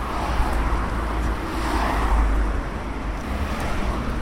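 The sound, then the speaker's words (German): Dense road traffic roars steadily at a busy motorway junction in the Breite quarter, where the busy Zürcherstrasse crosses a railway bridge and the Schwarzwaldbrücke, a continuous wash of engines and tyre noise with a deep low rumble and no pauses, fairly loud throughout. “Im Herz der Breite kreuzt die verkehrsreiche Zürcherstrasse drei Eisenbahnbrücke und Schwarzwaldbrücke mit ihren Auf- und Abgängen zur Zürcherstrasse.”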